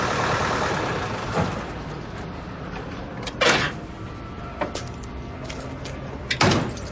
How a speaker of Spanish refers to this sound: Ya de noche, conduce el jeep por una calle y lo detiene junto a la acera frente al portal de Sharon.